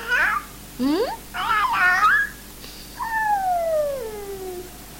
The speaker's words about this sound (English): the cat is saying that. Could you please let her in?